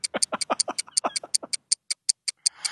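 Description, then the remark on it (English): A rapid, steady ticking like a clock, heard in Melbourne, sharp clicks repeating several times a second, with a faint murmuring voice underneath during the first half before the ticks continue alone. “Anyway, I know you're in Melbourne and you're clearly loving it, but can you hear the ticking there that I can hear?”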